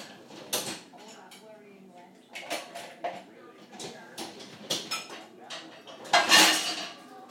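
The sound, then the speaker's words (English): A plastic bowl, usually used in the microwave and originally from an old Christmas pudding, is handled, with a series of light, hollow knocks and scraping clatters at irregular intervals, ending in a louder rustling scrape. “It's a plastic bowl I use in the microwave usually.”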